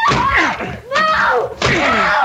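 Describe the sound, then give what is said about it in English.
A stuck door is forced and broken down: heavy thumping blows land, each followed by loud, drawn-out creaking and groaning of strained wood. “The door! I can't budge it! We will break it down!”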